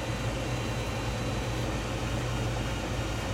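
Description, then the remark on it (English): A large printer runs steadily, producing a continuous mechanical whir and low hum with a faint buzzing drone, unchanging throughout, with no voices. “Okay, looks like the big printer is printing.”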